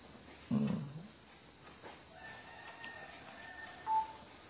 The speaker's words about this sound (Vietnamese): Tiếng gà gáy sắc ở cái này là coi như là mình giới thiệu cái cảnh, cái môi trường thôi.